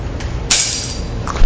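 A bunch of keys, taken from a pocket, is let go from the hand and lands with a bright metallic jangle that rings briefly and fades, followed by a couple of faint clinks as they settle.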